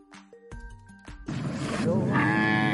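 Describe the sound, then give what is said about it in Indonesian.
A water buffalo in Güroymak district, Bitlis province, eastern Turkey, where buffalo are bathed in warm hot-spring water in winter, lows, starting with a few short, tonal calls and then swelling into a long, loud, rough bellow over a noisy, rushing background. “Di Turki banyak kerbau sengaja didorong mandi air hangat demi kesehatan mereka.”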